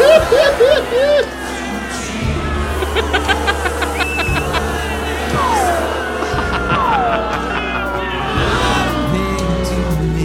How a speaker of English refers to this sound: Oh, there's a lot of crowd now.